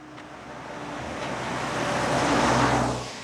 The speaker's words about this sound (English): Cars zoom past the wooded land that surrounds Grant Creek on North Douglas Highway on Tuesday morning. It's located just a few minutes beyond the bridge from downtown Juneau.